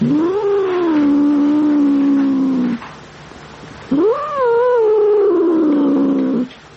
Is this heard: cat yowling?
yes